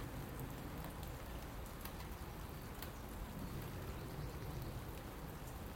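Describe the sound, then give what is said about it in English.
Steady morning rain pattering on a wide-brimmed hat, a dense hiss broken by sharper individual drop taps, continuous and even throughout with no voices. “Even my wide-brimmed hat is not keeping the rain out.”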